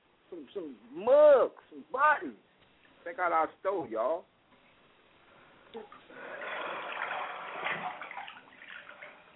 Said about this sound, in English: Damn, I hear that water.